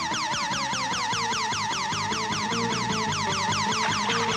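A loud, frantic electronic alarm wails without pause, its piercing high tone sweeping up and down about twice per second, layered over a lower throbbing pulse. Nobody speaks.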